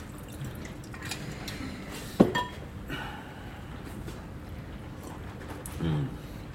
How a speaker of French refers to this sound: Je te sers un verre ? Bourbon ? Bien sûr. J'ai une bouteille de vieux Jack que je garde pour toi.